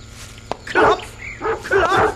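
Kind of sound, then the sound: animal, dogs barking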